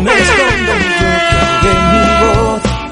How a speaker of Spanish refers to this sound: Marcos desde Alicante, pon lo que quieras y un buen bocinazo, un saludo.